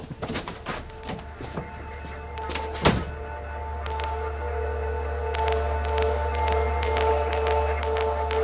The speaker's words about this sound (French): Vincent avait à peine refermé la porte que Christine faisait son petit rapport à Boiron.